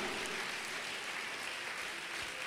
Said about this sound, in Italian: Vogliamo applaudire e benedire il nome del Signore. Alleluia!